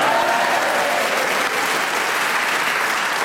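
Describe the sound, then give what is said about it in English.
A live audience applauds steadily, a dense wash of clapping hands that stays loud and even for a few seconds without any voices on top. “Well, did you ever expect to get a round of applause for saying you wet yourself on your first day at school?”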